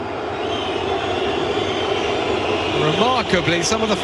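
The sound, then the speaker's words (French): A big stadium crowd roars steadily and loudly as Neymar steps up to take the shot in a match against Dijon, swelling near the end as whistles and shouting voices rise above the dense wall of noise; part of the crowd whistles Neymar. “Écoutez la réaction du public quand il comprend que c'est Neymar qui va tirer.”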